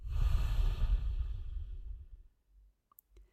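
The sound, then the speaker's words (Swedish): A long, breathy exhale during a guided breathing exercise, soft, starting strong and fading out over about two seconds, followed by a few faint clicks in near silence. “Andas ut.”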